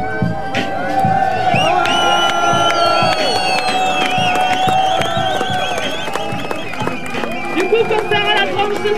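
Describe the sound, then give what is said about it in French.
A dense protest crowd at a demonstration for the defence of the Lentières neighbourhood, many overlapping voices shouting and calling out at once, with scattered whoops and bursts of cheering over a constant loud roar of people. “Voilà, donc c'était les enregistrements qu'on a fait hier durant la manifestation pour la défense du quartier des Lentières.”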